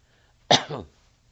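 A single sharp cough with a rough, throaty tail, like a quick throat clear, heard on its own against a quiet background.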